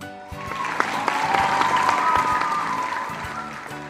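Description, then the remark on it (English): A large audience applauds loudly and steadily for a few seconds, dense clapping filling the space with excited shouts and cheers rising above it. “Everyone claps and shouts. They are so excited.”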